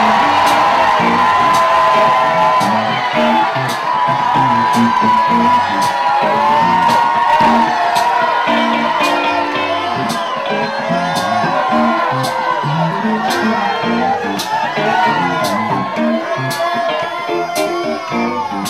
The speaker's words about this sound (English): Take a deep breath in. And when you let it out, I want you to scream out all of their names. Just let them go. Go ahead!